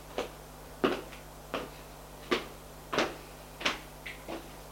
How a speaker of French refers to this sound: Il frappe à une porte.